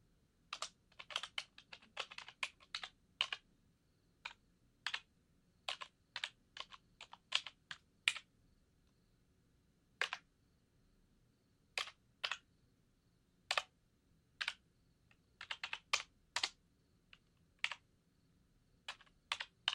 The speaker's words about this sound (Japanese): 大好きなキーボードのタイピング音だよ。ん？普段使ってるのとは音が違う。